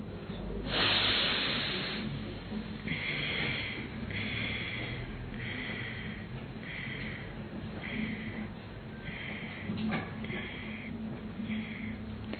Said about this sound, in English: So we all are going to follow now detox breathing. In one breath, exhale in stoppages 5, 6 or 7 numbers.